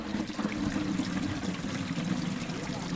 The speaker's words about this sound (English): And here, where you can hear the sound of running water, right there, you might say they're ahead of schedule. In Ruhira, in southwestern Uganda, this sound and the prospect of running water making its way toward a cluster of villages here is a test